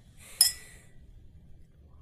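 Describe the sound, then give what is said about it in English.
A single bright clink of glasses touching in a toast, fairly crisp, with a short high ringing tail that fades within half a second over a quiet low hum. “Right, cheers, man. Cheers.”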